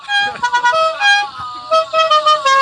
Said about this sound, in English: It's a very loud horn. He's honking at full-grown adults.